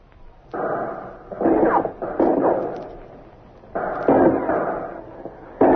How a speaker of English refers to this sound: Through the roof, Alcatraz guards and Pacific veterans of the United States Marine Corps drop hand grenades.